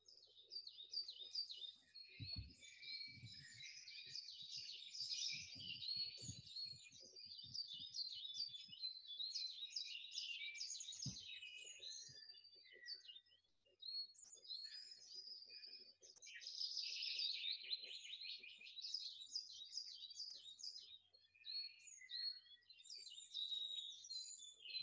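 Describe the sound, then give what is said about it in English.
A lively chorus of songbirds chirping and warbling outdoors in the countryside, steady and overlapping throughout, with a few soft low thumps early on and no voices. “leaning back against the tree and feeling that warmth on your body as you take a moment or two just to listen to the bird song and the country noises around about in that comfortable, deep relaxation.”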